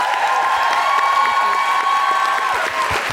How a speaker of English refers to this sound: Big round of applause